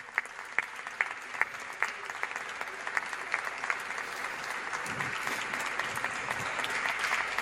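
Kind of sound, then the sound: crowd, audience applause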